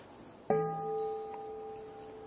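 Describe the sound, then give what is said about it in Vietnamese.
A single stroke of a meditation bell, rung to begin a group session of sitting in stillness, rings out, its clear, layered tones sustaining and slowly fading over a quiet background, with no one speaking. “Cùng ngồi tĩnh lặng thân tâm, nghe ba tiếng chuông để bắt đầu buổi sinh hoạt.”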